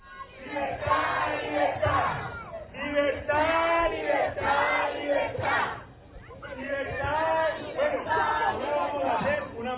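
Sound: protest crowd shouting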